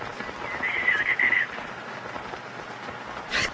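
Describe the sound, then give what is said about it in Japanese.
Heavy rain pours down steadily outside and grows stronger, a dense hiss with no pauses. A faint high warble rises briefly near the start, and there is no talking. “くそ、雨が強くなって音が。”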